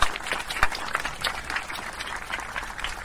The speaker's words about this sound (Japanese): 皆さん、大きな拍手をお願いいたします。